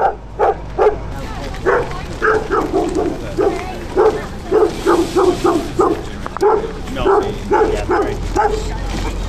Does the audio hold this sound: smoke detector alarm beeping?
no